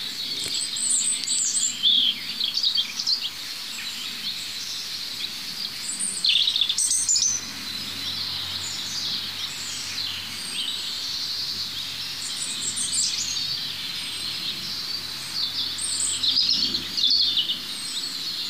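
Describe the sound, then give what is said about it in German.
At least three European robins, 10 to 15 metres apart, sing in overlapping bursts of high, trilling phrases, with another robin singing beyond them, over a steady hiss of background chorus. “Und während ich mich fortbewege und zu dem Äußersten in Laufrichtung Rotkehlchen laufe, höre ich schon dahinter wieder das Nächste.”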